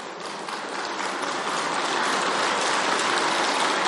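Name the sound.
audience clapping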